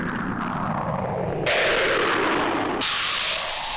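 A rolling thunderclap: a deep, sustained rumble with loud crackling bursts that surge twice, staying heavy and continuous for nearly four seconds with no voices.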